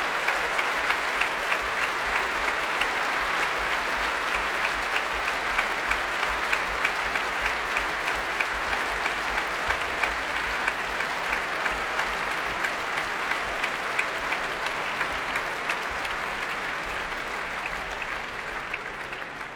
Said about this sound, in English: Well, the audience here are clapping and stomping. They want Hélène Grimaud back on stage. And here she is. Much tapping of bows and applause from the members of the orchestra here.